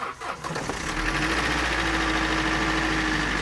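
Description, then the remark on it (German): A car engine cranks briefly and catches, then settles into a steady, loud idle with a constant low rumble and rhythmic mechanical ticking, as the car is started so a mechanic can listen to the engine. “So, jetzt geht es darum, den Motor zu starten.”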